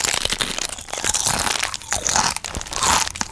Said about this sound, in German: Ich liebe Essensgeräusche. Das ist total entspannt. Ja, da hat jemand Chips gefruttert. Chips waren es, und, okay.